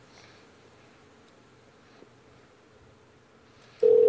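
A faint, steady telephone line tone hums quietly, then a loud electronic phone tone cuts in abruptly right at the end, as the caller hangs up on the number. No one speaks.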